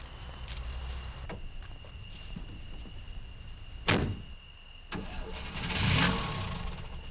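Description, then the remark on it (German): A car door thuds shut over a low idle rumble, then an engine cranks and roars to life with a rising surge. No one speaks. “Außerirdische steigt in ein Auto?”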